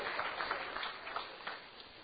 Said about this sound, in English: So please give them all a round of applause.